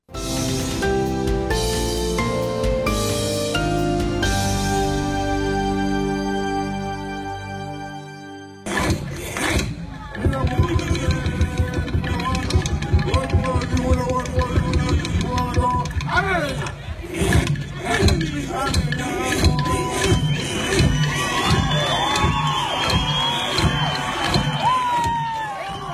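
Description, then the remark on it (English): Rhythmic Aboriginal dance performance by the Koonunji Whimper dancers at the Laura Aboriginal Dance Festival, Cape York, Australia: sustained tonal music opens, then a loud crowd roars and cheers over steady percussive beats and stamping, energetic throughout. “That's the sound of the Koonunji Whimper dancers wowing crowds at this year's Laura Aboriginal Dance Festival.”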